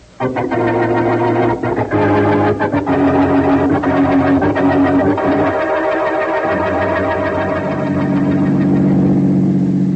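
A car engine roars steadily for the whole stretch, loud, its pitch climbing and shifting as the vehicle speeds along, with no talking over it.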